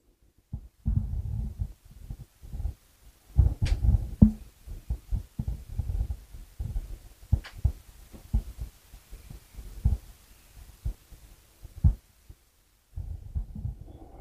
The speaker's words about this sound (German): Dieser Herzschlag, diese Lebenskraft, diese Schöpferkraft, die in allem ist, die bewirkt, dass die Pflanzen wachsen, dass die Vögel singen, dass die Insekten um dich herum summen und krabbeln.